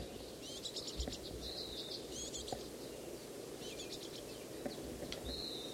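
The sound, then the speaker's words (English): A fledgling bird that has just been fed flutters its wings and begs for more with repeated bursts of thin, high, buzzy calls in short clusters, over a steady low background hiss. No one speaks. “Bird just got fed. Fluttering its wings, begging some more.”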